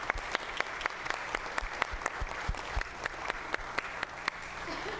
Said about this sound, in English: So will you join me in a round of sanctified applause?